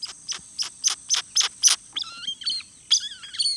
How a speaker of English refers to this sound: The ani's large, flattened bill spits out these sharp, high whistles, slurred whinings, and various squeaks, pips, and growls.